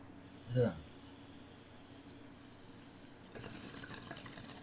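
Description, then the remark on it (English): Water bubbling in a Rick and Morty bong: a soft, steady gurgling that starts partway through and keeps going to the end, preceded by a brief louder burst of sound near the start. “Oh, man, I can hear bubbling over there.”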